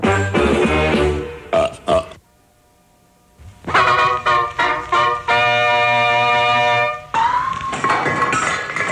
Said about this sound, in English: Excuse me. Excuse you for what? I burped.